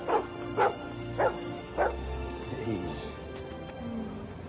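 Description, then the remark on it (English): Four sharp, evenly spaced dog barks ring out, followed by a softer, drawn-out whimpering whine as the barking stops, with faint background murmur underneath. “You made a great dog, Dad.”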